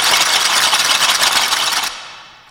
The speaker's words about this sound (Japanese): 天竜さんと長州さんの談話を文字に起こそうとするが全く聞き取れず、やけくそで適当にタイピングする新人記者。 なるほどね。 あ、タイピングの音だね。タイピングの音だね。